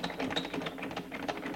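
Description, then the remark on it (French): A bedroom door knob being turned and jiggled: a quick, uneven run of metallic clicks and rattles lasting under two seconds, fairly quiet, with no voices. “Tourne le bouton de la porte.”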